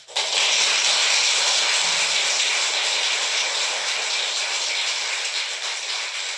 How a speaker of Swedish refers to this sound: Ja, det är alltså jubel vi hör i rättssalen.